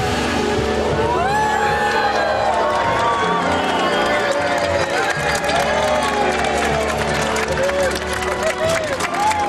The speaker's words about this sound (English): They were all so pleased to get an eyeful of Heston's chocolate box for the first time. They were all whooping and cheering there.